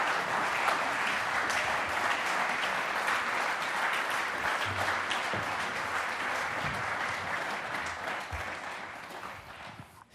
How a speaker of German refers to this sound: Heisst doch mit einem warmen, aber tosenden Applaus unseren Gast